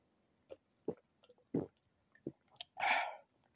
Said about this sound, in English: So let me sip on some of this soda again. Hold on.